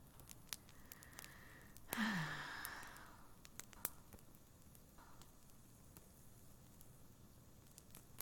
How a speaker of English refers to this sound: How cool is that? An electric fireplace. Yep, came with the apartment. It even makes that crackling sound. Probably my most favorite thing in the place right now.